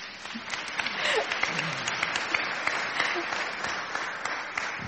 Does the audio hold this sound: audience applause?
yes